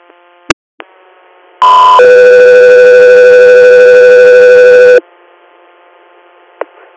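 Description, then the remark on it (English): A loud, steady Guthrie Air dispatch radio alert tone for an interfacility transfer request sounds for about three seconds, a harsh electronic two-part tone over faint radio static, with brief clicks before and after. “Guthrie, stand by for tones.”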